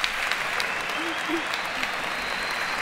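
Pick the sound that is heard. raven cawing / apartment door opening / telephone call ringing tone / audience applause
audience applause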